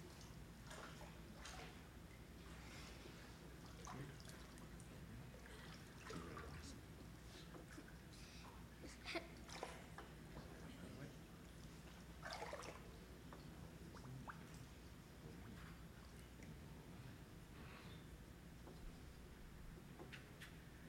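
Soft, irregular splashing and sloshing of water as a person steps down into a church baptistery for a baptism, with scattered drips and light clunks over a steady low hum, quiet, no talking.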